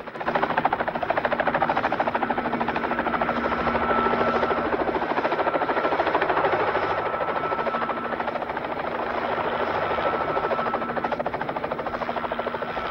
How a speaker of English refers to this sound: Mr. Bolt spies the van from his helicopter and they swoop down low towards it.